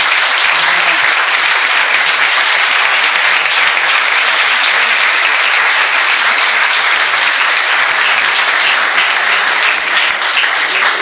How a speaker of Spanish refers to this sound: yo quería pedir un aplauso para Hugo por su presentación